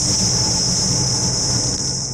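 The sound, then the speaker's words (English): A juicy Burger Revolution beef patty hits the grill and sizzles loudly, cooked for the Quintilicious local restaurant event in the Bay of Quinte, a steady bright hiss that holds evenly for a couple of seconds over a low rumble, with no voices. “That's the sound of one of Burger Revolution's juicy beef patties hitting the grill in preparation for Quintilicious.”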